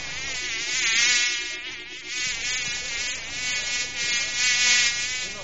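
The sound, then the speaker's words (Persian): A fly buzzes steadily for several seconds at a garbage dumpster, its drone wavering in pitch and loudness as it hovers and circles, with no talking over it. “نام ما مگس است. ما بچه گو مگس نواسه خر مگس هستم.”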